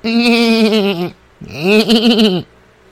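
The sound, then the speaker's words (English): A person imitates a goat with two loud, drawn-out bleats, each about a second long with a wavering, quavering pitch, separated by a short pause. “And I also like to make goat noises after I introduce myself, which would be like this.”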